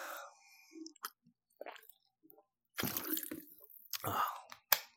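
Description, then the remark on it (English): Mouth sounds of someone taking a sip of water: small wet clicks and a swallow, then rustling and a short breath, with brief bits of voice. “Let me get a drink of water here.”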